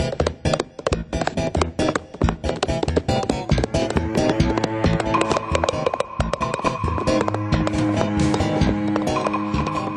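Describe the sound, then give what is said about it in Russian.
Steady, rhythmic clip-clop of a saddled horse's hooves trotting along with a rider, fairly loud, with sustained musical tones joining in halfway through; no one speaks. “Наконец не выдержал родительских укоров, оседлал коня, да поехал суженую искать.”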